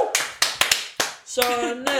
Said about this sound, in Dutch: Daar mag ook best een keer een applaus voor worden gegeven.